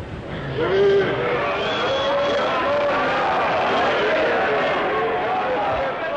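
An opera audience at La Scala in Italy boos loudly and without pause after Maestro Zubin Mehta announces that soprano Montserrat Caballé is ill and will not perform. Many voices overlap in long, wavering jeers and shouts that blend into one dense, continuous roar lasting more than two minutes.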